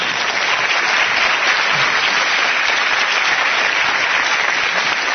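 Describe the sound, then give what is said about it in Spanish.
An audience claps steadily and loudly for two participants who have just hugged in a demonstration, a dense, continuous patter of many hands that holds at the same level for about five seconds with no voices heard. “Muy bien, y hasta un aplauso para ellos.”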